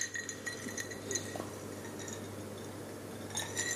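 Drinking glasses clink together in a toast several times in quick, irregular taps, fairly quiet, with a steady low hum underneath and no talking.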